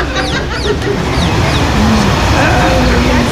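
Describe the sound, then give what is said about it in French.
An agitated goose honks and squawks repeatedly in short bursts as it attacks people going into the Jordan River, pinching them, over a busy outdoor background with voices and commotion. “Ils sont attaqués par une oie là-bas.”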